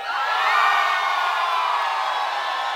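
A crowd screams and cheers loudly in a sustained, dense roar of high-pitched voices and whoops, steady for a few seconds with no distinct speech.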